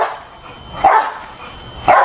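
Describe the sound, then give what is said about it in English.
A dog barks twice while jumping on a trampoline, sharp and fairly loud, about a second apart in a steady rhythm with its jumps, with a soft background hiss between the barks and no talking. “Is barking to the beat of his own jumping, and he seems to launch into a new round on command.”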